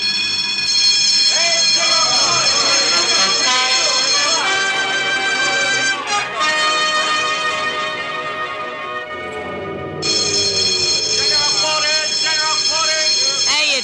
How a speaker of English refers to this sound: Quartermaster, sound general quarters.